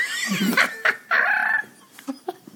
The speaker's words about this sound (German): Was ist das denn? Ein Straußenbaby. Gibt's einen hässlicheren Vogel? Unfassbar.